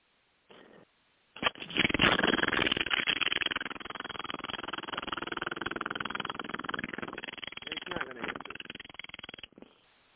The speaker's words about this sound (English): he has a vibrator, and he sits it on a metal table and then turns it on